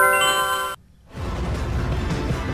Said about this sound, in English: Is that like an instant message, like an IM? From which company? Remember what it was? I want to say like AOL.